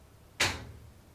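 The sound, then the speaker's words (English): The soft-close lid of a washing machine is let go and settles shut with one soft, muffled thump, gently landing without slamming, fading quickly with no slam or rattle. “I'm going to let this lid go.”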